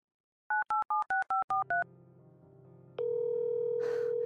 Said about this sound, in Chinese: 您先等等，我给他打个电话，看看他在哪里。